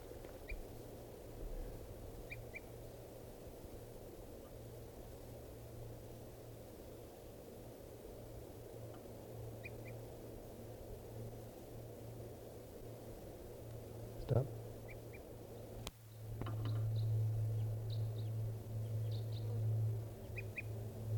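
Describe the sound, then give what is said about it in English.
Brief, high tooping calls of a crossbill attracted to decoys, often in quick pairs, repeat at irregular intervals, with bird 384 responding with the same call. They sit faintly over a steady low hum and constant hiss, with a single sharp thump partway through. “And 384 is responding with the same call.”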